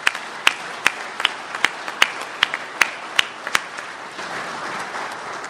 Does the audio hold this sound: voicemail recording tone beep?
no